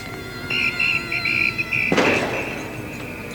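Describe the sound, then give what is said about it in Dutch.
A glass bottle falls and smashes on the ground partway through, a single sharp crash trailing into a brief scatter of tinkling shards, over noisy outdoor crowd ambience in Amsterdam on a Saturday afternoon, with shrill whistling just before. “Nou, dat is een fles die stuk valt.”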